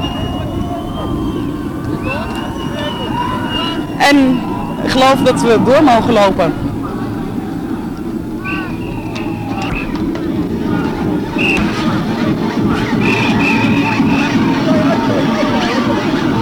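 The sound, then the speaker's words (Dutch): A dense, noisy crowd of people partying at a street crossroads during a demonstration chatters and shouts steadily, with bursts of whistling and high cheering around the middle, while a man speaks over the lively din. “Op de kruispunt zelf zijn de mensen lekker aan het reven en zo.”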